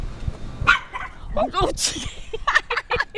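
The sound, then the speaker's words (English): A dog barks and yips behind a fence in a quick, irregular string of sharp bursts, fairly loud, with muffled voices faintly in the background. “Do not touch that dog's cherries.”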